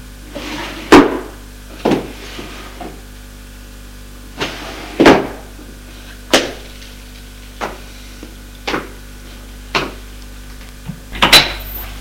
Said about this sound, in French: Voit un buffet en bois de rose. L'ouvre. Regarde. Ouvre les tiroirs.